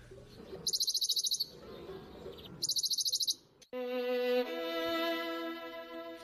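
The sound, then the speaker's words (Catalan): Two short, rapid trills of a Western Bonelli's warbler ring out a second apart, each a dry, even burst of notes over quiet ambience, then sustained music begins. “Tornem a escoltar aquest mosquiter pàl·lid, el seu cant, aquesta ràfaga.”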